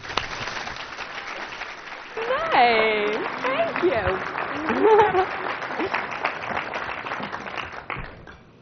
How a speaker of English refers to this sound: So now please join me in giving a warm round of applause